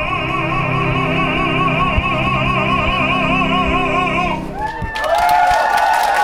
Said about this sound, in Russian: Зрители оценили, встретили и проводили артиста бурными и продолжительными овациями.